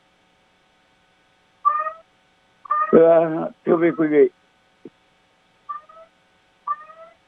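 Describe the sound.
Short, high, chirping electronic alarm tones from an alarm on a phone repeat at intervals of a few seconds, sounding before and after a man speaks briefly in the middle.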